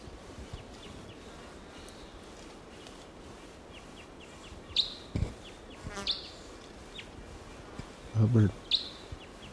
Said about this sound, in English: There's a wild crossbill here, a different one, or maybe the same one, much later. It's about 10 o'clock now.